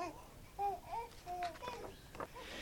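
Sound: baby babbling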